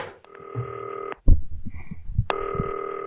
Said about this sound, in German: Es klingelt. Ich leg den Hörer mal beiseite.